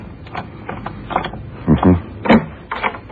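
A key scrapes and rattles in a hotel room door lock, a string of short metallic clicks building to a couple of heavier clunks as the mechanism turns, then more light jiggling.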